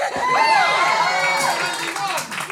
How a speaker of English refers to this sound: I think with an applause like that.